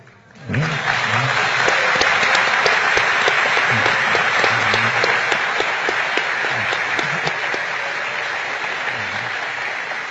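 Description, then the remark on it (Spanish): Loud, sustained applause from a large audience begins abruptly and continues steadily, a dense wash of many hands clapping that fades only slightly toward the end, with faint voices underneath. “Por la fuerza de los aplausos, supongo que aquí hay o muchos poetas o muchos electricistas, ¿no?”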